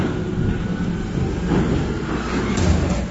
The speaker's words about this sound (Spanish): El sonido del camión de la basura.